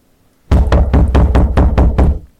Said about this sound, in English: At this moment, there is a pounding on the front door below you.